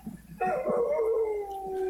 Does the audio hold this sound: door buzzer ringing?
no